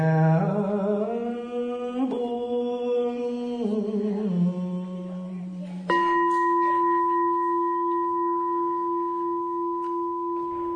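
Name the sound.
meditation bell ringing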